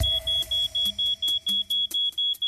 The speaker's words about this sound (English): If a fire occurs in your home, especially at night, working smoke detectors are your best early warning.